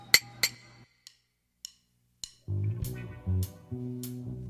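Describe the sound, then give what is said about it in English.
Glasses clink together in a toast: a series of sharp, bright, ringing taps spaced irregularly, with a low droning background joining partway through. “Cheers. Cheers. Or how do you say it? Ching ching?”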